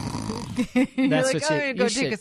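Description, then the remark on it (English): A person imitates a woman's snoring with a few quick, throaty snorts and voiced rumbles, fairly loud, in a short burst lasting about two seconds. “Hear her like snore.”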